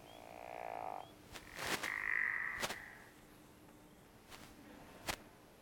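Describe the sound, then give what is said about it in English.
A frog gives a creaky, descending snore-like call, a raspy drawn-out croak, set against sharp clicks and a faint chorus of high-pitched peepers in the background. “All right, these guys are breeding mid-spring. And they have a descending snore. Sounds to me like it's opening a creaky door.”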